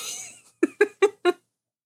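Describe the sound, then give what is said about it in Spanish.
A pet cat lets out four short, quick vocal cries in an even rhythm, fairly clear, preceded by a brief breathy hiss of noise. “por ahí se escucha ruido, no sé si sea yo o quién sea. Sí, creo que es mi gato.”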